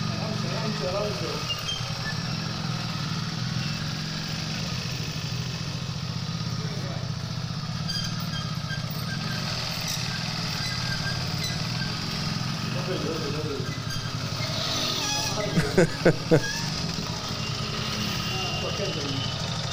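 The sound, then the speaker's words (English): A motorcycle engine runs steadily for the whole stretch, a continuous low drone, with faint indistinct voices and a brief cluster of sharp clicks near the end, as a 103-year-old man rides the motorcycle. “And somehow he paid someone to videotape him riding the motorcycle.”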